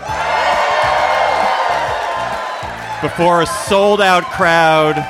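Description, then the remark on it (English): A large sold-out audience at the Bell House in New York cheers and whoops loudly for a few seconds, a dense roar of voices, before a single voice starts speaking over the fading crowd noise. “We're live at the Bell House in New York before a sold-out crowd.”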